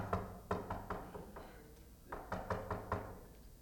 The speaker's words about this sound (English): And sometime when you knock on the wall, you can hear how hollow the wall is. When you knock, that's hollow. Has almost like a little echo to it.